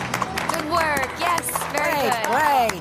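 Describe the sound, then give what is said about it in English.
A group of wedding guests clapping for the health of the bride and groom in scattered, irregular bursts while several voices cheer and call out over the applause. “Dear guests, let's clap for the health of the bride and the groom.”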